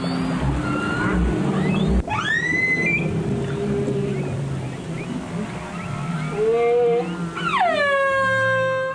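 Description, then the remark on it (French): Humpback whale song: several long, sweeping rising and falling moans and upsweeps with rich harmonics, spaced out over a constant low underwater rumble, fairly loud. “Vu que c'est quand même un sujet radiophonique, nous n'allons pas nous priver d'en écouter quelques-uns. D'abord, celui de la baleine à bosse.”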